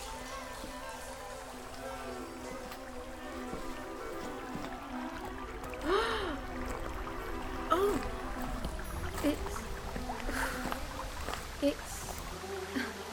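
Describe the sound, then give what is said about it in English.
A steady, continuous rush of flowing river water fills the background at moderate volume, with a brief exclaimed voice and some speech over it. “It's the river.”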